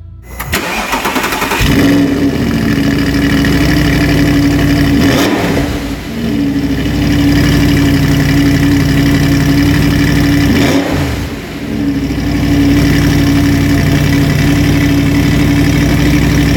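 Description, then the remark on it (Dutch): A 4.2-litre Quattro V8 engine with 420 hp, in an automatic car in a showroom, cranks briefly and fires up, then settles into a loud, deep, steady idle with two short dips in the rumble, as heavy clouds of smoke come out the back. “4,2 Quattro V8 motor erin. Met maar liefst 420 pk.”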